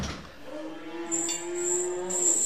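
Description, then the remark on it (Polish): A cow from a farmer's herd lets out a long, drawn-out moo, steady, with a faint high whine and rustling in the background and no one talking. “Ja mam hobby, z kolei chowam krowy, ale chodząc tutaj przy tych krowach, to mi towarzyszą bociany także tutaj w koło.”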